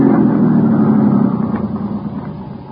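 A car engine runs steadily, a low mechanical rumble that eases slightly toward the end, as the car turns around at a wide spot and stops with its engine left running.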